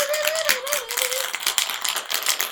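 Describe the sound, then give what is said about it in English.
A cocktail shaker holding vodka and cream liqueur is shaken hard and fast, ice rattling in a steady rapid rhythm with sharp bright clacks throughout, while a faint tone glides briefly underneath. “So what you're going to do is put the vodka and the cream liqueur into a shaker. And shake it. It says shake it for about 20 seconds.”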